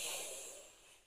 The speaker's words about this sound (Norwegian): Og pust godt inn en gang til.